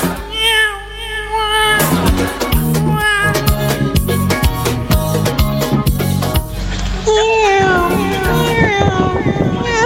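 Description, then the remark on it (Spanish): A person's voice in a sent audio message tries to imitate a mosquito's whine but produces wavering, high, drawn-out tones that sound more like a cat meowing, loud, running for several seconds. “Otro, manden otro audio, pero eso parece un gato, sí, parece un gato.”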